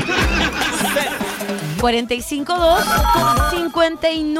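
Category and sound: signal or alarm, telephone ringing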